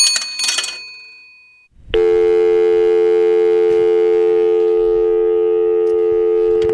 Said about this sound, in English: Once again, caught by surprise with the dial tone.